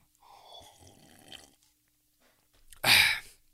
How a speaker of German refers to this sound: So, noch einen Schluck Sprudel.